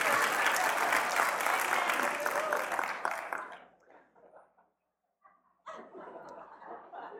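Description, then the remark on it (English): An audience at a Bible teaching on Colossians bursts into dense, loud applause for about three seconds after a quip about Joel Osteen, then it fades out to near silence before a voice starts speaking. “I didn't mean for that to get an applause, but whatever.”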